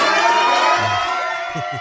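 A room full of people erupts in loud, sustained cheering and shouting after a man on the phone says "It's Dallas": a dense wash of many voices with high whoops, holding steady for the whole stretch before easing slightly at the end.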